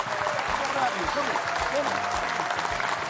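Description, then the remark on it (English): An audience breaks into steady, dense applause for the speaker's father, who is in the audience, a loud sustained wash of clapping, while a man's voice talks over it throughout. “Let's give a round of applause for my dad over there.”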